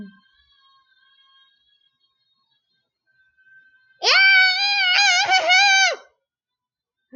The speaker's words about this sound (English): Son, stop yelling, it's annoying.